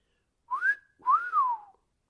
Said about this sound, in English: Is it unacceptable to whistle at a woman or as she walks past? No, it's not unacceptable to whistle at a woman as she walks past.